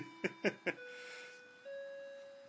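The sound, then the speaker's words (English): A clock chimes three quick bell strikes as it does every hour, followed by a lingering, ringing tone that hums on steadily. The chimes are fairly faint, with no one talking. “That's my wonderful clock. And every hour it chimes the bells.”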